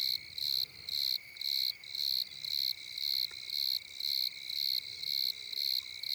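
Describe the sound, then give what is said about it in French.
Bordeaux crickets all around trill in regular pulsing bursts, roughly two per second, over a steady, continuous high-pitched background wash of Italian tree crickets (Oecanthus pellucens), with the ground temperature at 20.6 °C and falling. No one speaks. “Donc là on est entouré de grillons bordelais qu'on entend vibrer. Et en fond on a un tapis de grillons d'Italie, Eucanthus pelusens.”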